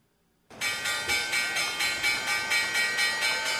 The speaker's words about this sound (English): Hey, man, let's hit the closing bell, see if we made any loot today on Wall Street.